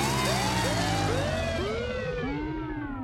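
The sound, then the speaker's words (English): A new and improved surprise guest alarm: a loud, continuous siren-like alarm with repeated rising and falling wails that overlap in a dense, shrill tone, sounding steadily for a few seconds with no talking. “It's just a new and improved surprise guest alarm.”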